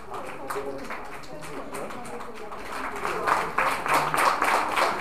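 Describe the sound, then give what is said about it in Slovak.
A group of people at a youth training course imitate a thunderstorm with dense, overlapping claps, taps and voiced noise that sounds much like applause, swelling louder toward the end. “My sme však týmto hurhajom chceli znázorniť búrku a dá sa povedať, že sme ju tiež odprevádzali.”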